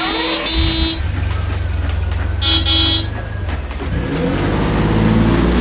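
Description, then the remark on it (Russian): A car horn toots in short bursts over a steady low engine rumble that swells as the motor revs up, loud, with no talking. “Садимся в машину.”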